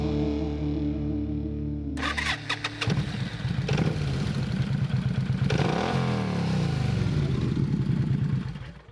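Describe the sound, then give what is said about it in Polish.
A three-wheeled motorcycle with a sidecar cranks and catches, then idles roughly before revving up louder, with a steady rumbling throb and no one talking. “Tak, na trzech kółkach, bo jest to motocykl z wózkiem bocznym, czyli do podróżowania jeszcze z pasażerem obok.”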